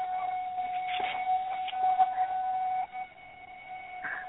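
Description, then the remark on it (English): A school bell rings in a school setting with a steady, sustained mid-pitched tone that holds for a few seconds, then cuts down abruptly to a quieter lingering ring. No one speaks. “Sorry about the bell, but we are in a school setting.”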